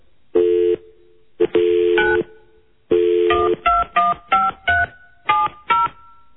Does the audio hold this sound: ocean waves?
no